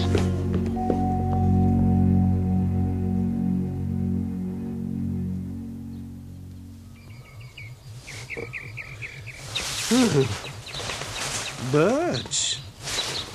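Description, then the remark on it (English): A low, steady drone fades out, giving way to birds chirping and calling in the morning in bright, swooping bursts over a soft, rapid insect-like pulsing, fairly loud. “Birds? At night? It's morning, Leo. Not night.”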